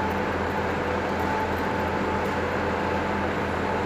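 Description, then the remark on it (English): A train pulls away from York station on a sunny day, a steady low mechanical rumble with a faint tonal whine running continuously throughout, with no voices. “Brickhouse has just left. 120 Stirling's just gone.”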